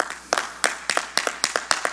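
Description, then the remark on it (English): Sharp hand claps, roughly a dozen in two seconds, in an uneven, slightly doubled rhythm as two people clap their hands together to the Lord. The claps are crisp and fairly loud, with no talking. “You clap your hands with him.”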